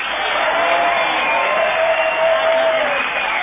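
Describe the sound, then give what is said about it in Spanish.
A crowd cheers and applauds in an ovation for Gillespie, a loud, steady roar that holds for the full few seconds, a dense wash of voices and clapping with no pauses. “No menos falsa será la ovación que tributaremos a Gillespie.”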